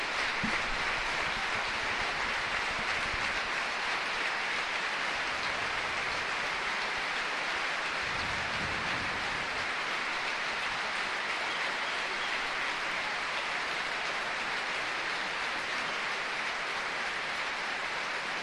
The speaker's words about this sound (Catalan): Jo no recordo un minut més atronador que este. Roda el baló i la gent està aplaudint, eh?